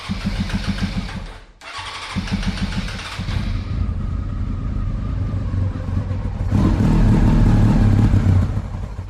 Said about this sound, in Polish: I nie mogę się doczekać, aż mi pojadę, ponieważ będzie to pierwszy raz na torze w Poznaniu na tym motocyklu po moim wyjeździe do Hiszpanii.